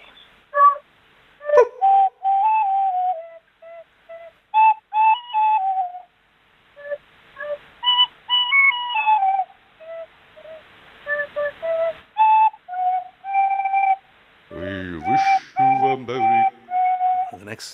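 A child plays a simple, slightly halting Christmas tune on a tin whistle over the telephone, short bright notes separated by brief pauses, with a moment of breathy, uneven tones near the end.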